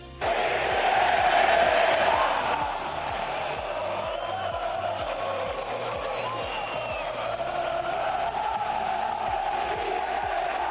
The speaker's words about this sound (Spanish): la afición no aguantó más y cantó el Quique,